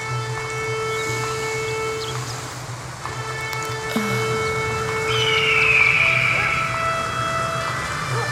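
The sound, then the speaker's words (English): Long, sustained trumpet tones hold steady for seconds at a time, shifting to new notes a few times, with a bright swell near the end over a low, constant hum. “Just take a few moments to hear and focus on the sound of that trumpet.”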